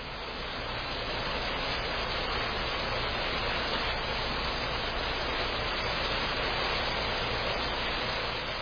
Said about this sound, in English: It's raining here, so I hope you can still hear.